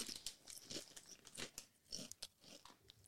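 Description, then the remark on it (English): Crisp crunching of XL Cheese crisps being chewed, with repeated brittle bites and crackles in an uneven rhythm, fairly quiet and with no talking. “They're soft and crunchy at the same time.”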